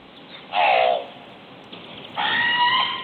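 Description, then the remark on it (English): A crow calls twice with loud, harsh, harmonic caws: a short one first, then after a pause a longer, sustained one that runs to the end. No one speaks. “Yeah, here's what the crow sounds like.”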